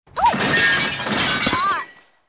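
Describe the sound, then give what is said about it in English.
A loud crash of glass shattering as someone falls onto glass outside a window, with bright splintering noise lasting nearly two seconds, marked by a couple of short squeaky tones before it fades out. “She did not catch him, but she heard a loud crash and a squeak.”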